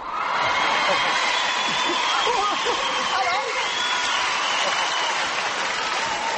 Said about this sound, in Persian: مورد تشویق بیش از اندازه تماشاچیان و داوران مسابقه قرار گرفت